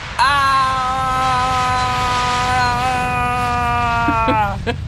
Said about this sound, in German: Das war natürlich Quatsch. Das Flugzeug hat nicht ganz reingepasst ins Lachlabor. Aber es kam aus den Lautsprechern, das war schon mal ganz gut.